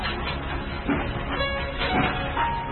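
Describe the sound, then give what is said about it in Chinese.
A train carrying 23-year-old Eric Liddell rumbles steadily as it pulls away from a station in Scotland, a continuous, dense clatter of rolling wheels and machinery with a faint tonal whine, moderately loud throughout. “随着诗歌，曾经祝福的人群挥动着手帕和帽子，随着火车一直追到了月台尾端。”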